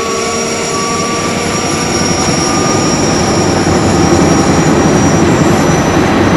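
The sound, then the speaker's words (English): A loud engine of military reconnaissance helicopters at first light whines over a dense, rumbling roar with a fast rhythmic chop underneath, the sound holding steady and building slightly as the rotors spin up. No one speaks. “With first light, the rotors of our recon choppers whirl to life.”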